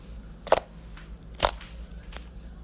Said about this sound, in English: So let's just compare the sounds here. This is my two wet glue. Oh god, it's getting wetter by the second.